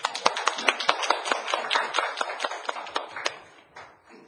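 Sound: audience clapping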